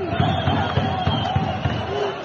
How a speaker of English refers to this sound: So here you can hear riot troops firing rubber bullets. There were stun grenades, water cannons, and tear gas to disperse the crowds.